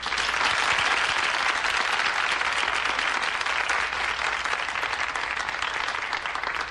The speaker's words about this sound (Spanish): Pero no debes estar nerviosa, que estás entre amigos. Venga, un fuerte aplauso para Agustina.